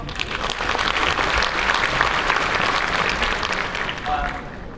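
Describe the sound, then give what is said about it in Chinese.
An audience at a Year of the Monkey gala claps steadily for nearly five seconds for the 155 cast and crew. It is a dense, even wash of applause, with a brief thin tone near the end as the clapping starts to ease. “那也希望待会儿呢，大家在观看我们节目的时候，一定要给我们的演职人员多多鼓励，多多的掌声，谢谢。”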